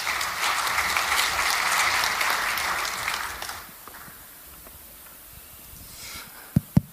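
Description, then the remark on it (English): An audience applauds steadily for a few seconds to welcome two speakers to the stage, a dense wash of clapping that fades out, leaving quiet background noise and a couple of sharp knocks near the end. “So give them a round of applause and welcome to stage.”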